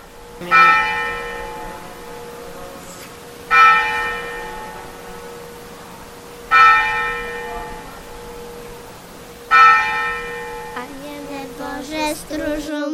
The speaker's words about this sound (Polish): Zaś na pamiątkę posłannictwa i zwiastowania Archanioła Gabriela pozostała modlitwa, którą nazywamy Anioł Pański, oraz zwyczaj, że w każdym kościele 3 razy dziennie biją w dzwony, rano, w południe i wieczorem. Posłuchajcie tylko.